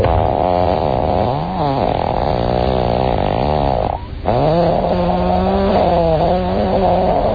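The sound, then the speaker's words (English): A long, sustained fart with a loud buzzy rasp whose pitch wobbles up and down, briefly breaking off midway before resuming and continuing steadily to the end, with no talking. “I'd say that is one of the finer farts I've heard.”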